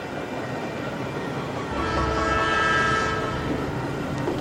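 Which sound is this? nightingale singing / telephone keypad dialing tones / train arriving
train arriving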